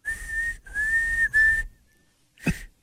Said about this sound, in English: I used to whistle in class with my tongue